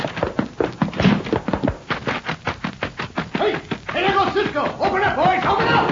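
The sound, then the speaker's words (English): A rapid flurry of loud thumps, like fists pounding hard on a locked door, goes on for several seconds before excited voices break in and carry on shouting. “Open up, boys! Open up!”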